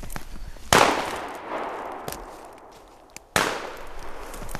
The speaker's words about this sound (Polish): Dwa strzały. Więc może celne.